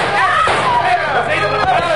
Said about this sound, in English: Don't shoot again, senor!